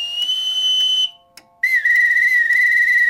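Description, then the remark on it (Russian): A boatswain's pipe, a special whistle used to give commands, sounds a loud, shrill call signalling the crew to eat: one long high steady note, a brief pause, then a second sustained note, slightly lower with a faint warble. No voices. “Боцманская дудка – это особый свисток. Им команды подают.”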